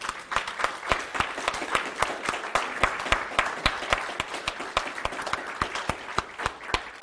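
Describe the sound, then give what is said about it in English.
A room full of people applauds steadily to thank the coaches and volunteers, a dense patter of overlapping hand claps at moderate volume that continues without a break for several seconds, with no voices over it. “The reason I don't normally do that is because, you know, I've been the person sitting in the chair when people are clapping and kind of just want to hide.”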